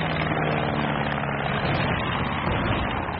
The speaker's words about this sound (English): Black plane, wings swept back. It's Lensch, their top flyer after von Richthofen. No wonder he got through.